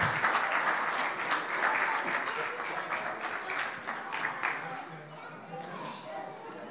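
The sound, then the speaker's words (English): A crowd breaks into sustained applause for the kids as they head out, a dense steady patter of many hands clapping that holds strong for several seconds before easing slightly toward the end. “Give the kids a round of applause as they head on out.”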